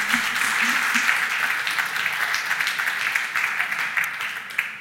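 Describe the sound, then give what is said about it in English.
A crowd applauds its volunteers steadily, many hands clapping in a dense, sustained wash of sound that stays fairly loud throughout with no pauses, and no voices stand out above it. “Well, I'd like you to give a round of applause to our volunteers.”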